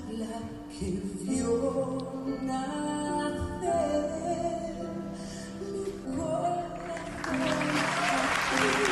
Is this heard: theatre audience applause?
yes